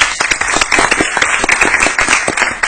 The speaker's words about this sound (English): So wave your hands so we can give you a round of applause as well.